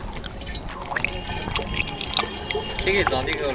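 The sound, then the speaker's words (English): Water sloshes and splashes as high-school students testing for harmful chemicals scoop several gallons from a stream in Taizhou whose banks are littered with piles of electrical cable; a busy, uneven burble lasting throughout, with faint background voices and a few high chirps mixed in. “On this day, they draw several gallons from a waterway whose banks are littered with piles of electrical cable.”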